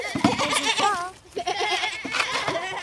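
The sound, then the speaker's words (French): Goats bleat loudly and repeatedly while being fed, their wavering cries overlapping in a busy chorus with a brief lull in the middle. “On est en train de donner à manger aux chèvres.”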